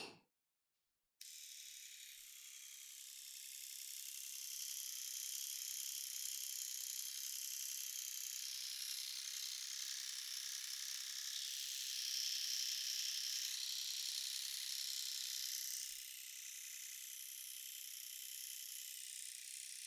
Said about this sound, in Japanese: シェーバーすぐ終わらすけんね。